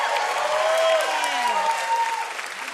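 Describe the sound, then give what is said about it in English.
Sustained audience applause for the band at the Alberta Rose Theater in Portland, Oregon, during LiveWire, a dense steady patter of clapping at moderate loudness, with a few faint tonal glides and hints of voices mixed into the crowd noise. “Let's hear it for this band.”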